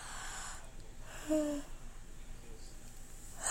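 A single drawn-out yawn, quiet: a long breathy inhale swelling into a brief voiced groan midway, then trailing off into soft breathing with no words spoken, from a tired, sleepy person.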